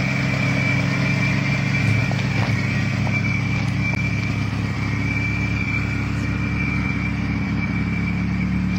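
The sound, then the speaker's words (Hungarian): A steady, rumbling engine idles, its low drone and faint rattle holding even for the whole stretch with no one speaking. “Ez az alapjárat, ez egy elég jellegzetes.”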